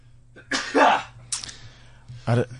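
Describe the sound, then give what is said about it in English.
A loud human sneeze: a breathy, building 'ah' that breaks into a sharp hissing burst, followed by a shorter noisy exhale and another voiced burst, over a steady low hum. “Let me share my sneeze with you first thing on a Monday.”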